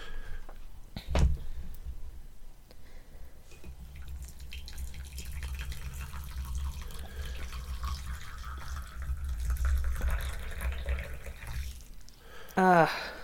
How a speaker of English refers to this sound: And being that, let's pour some cuppa.